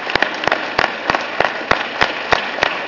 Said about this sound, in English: Yeah, they're cheering.